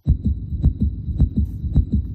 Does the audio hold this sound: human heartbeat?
yes